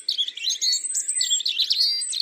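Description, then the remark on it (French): A European robin sings a continuous, high-pitched warbling song of quick tumbling trills and thin whistles, steady in volume, with no voices or other sounds around it. “À entendre son chant si délicat, on pourrait croire que le rouge-gorge est d'un tempérament tranquille.”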